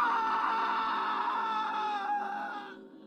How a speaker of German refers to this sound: Sie wollten gerade wieder das Licht von außen anschalten, da drang ein schriller, grausamer Schrei aus dem Badezimmer.